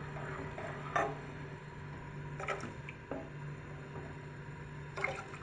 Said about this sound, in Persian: آرام آرام همه قابلمه، سطح قابلمه رو هم میزنم که چیزی ته نگیره و همه جای قابلمه کامل هم بخوره.